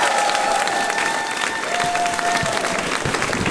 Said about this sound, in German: Aber eigentlich gilt ja der Applaus euch, weil ihr habt ja Eintritt bezahlt.